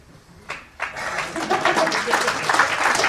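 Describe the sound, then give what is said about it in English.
An audience breaks into applause: a few scattered claps at first, then a dense, steady wash of clapping that swells and holds at a fairly loud level. “You know who you are applauding with this.”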